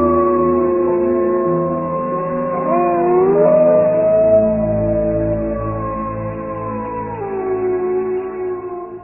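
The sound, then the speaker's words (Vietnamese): A wolf pack howls together, several long, overlapping voices holding and sliding their pitches in a continuous, fairly loud chorus with no talking. “tiếng gọi vang lên mạnh mẽ chưa từng có, nhưng chưa bao giờ như lần này.”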